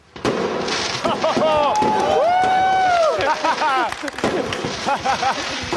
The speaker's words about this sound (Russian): Осталось только проверить салют. С этим тоже проблем у нас с детства не было. Смотрите.